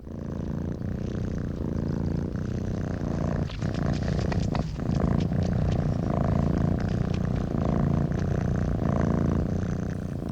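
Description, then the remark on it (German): Steady purring from cats in Terry Fox's 1972 radio art piece "Das Labyrinth, komponiert für das Schnurren von Katzen", first aired on ORF in 1977, a continuous low rumbling drone with a pulsing rhythm that carries on without pause, heard alone with no talking. “Diese Katzen schnurrten im ORF zum ersten Mal im Jahre 1977.”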